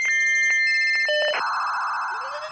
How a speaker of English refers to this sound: Technology, it's a blessing. The beeping on the phone is a huge blessing, and there are days where it's beeping 100 times in a day, and you think you're going to lose your mind.